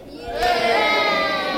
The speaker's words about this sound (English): All you Manchester United supporters have got to cheer when they score a goal. Cheer.